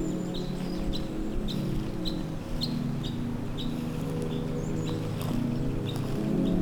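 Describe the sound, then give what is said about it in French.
Birdsong outdoors on the high wooded slopes of la Liose: a bird repeats short, high chirps at a steady, quick pace, with occasional other calls, all set over a constant low rumbling background. No one speaks. “Les oiseaux et acheminés, vous saluent bien, auditeurs.”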